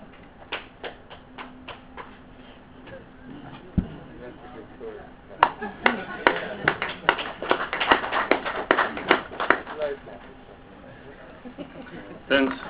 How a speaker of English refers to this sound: Thanks. I'll give you a slow clap. Thanks, Honourable Minister. I'm sure Honourable Freeland did clap for the long-term structure. It's a slow clap because I'm still waiting for it to come.